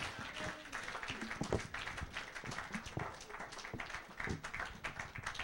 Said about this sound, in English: If you were blessed, give the Lord a hand clap of praise.